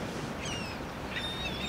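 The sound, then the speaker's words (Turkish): Thin, high seagull cries, a few drawn-out calls sliding downward over a steady wash of wind and wave noise. “Martılar, dalgalar, bir rüzgar çıngırağı.”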